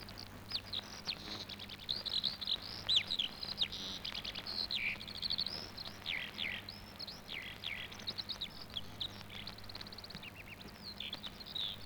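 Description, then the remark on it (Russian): A skylark sings a continuous, rapid stream of high, bubbling trills and warbles, moderately faint, over a steady low background hum with no talking. “Выступает заслуженный артист полей и степей Жаворонок.”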